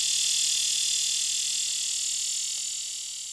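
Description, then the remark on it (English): A buzzsaw cicada drones in one continuous, rough, high-pitched buzz, loud and steady throughout, easing slightly toward the end, with no voices present. “The buzzsaw cicada has a rough, high-pitched buzz and will only call in the morning.”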